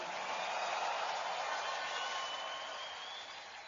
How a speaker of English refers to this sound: Give the Lord a big clap and a shout of victory.